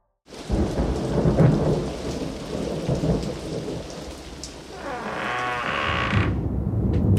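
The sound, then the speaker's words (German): A sudden rain shower pours down steadily with deep rumbling thunder rolling underneath, loud, and a brief rising crackle near the end before the downpour continues. “Jetzt bin ich ganz plötzlich in den Regen gekommen.”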